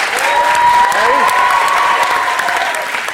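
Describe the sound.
An audience claps steadily in a dense, loud wash of applause, with a sustained tone and brief voice-like sounds rising through it before it fades slightly at the end.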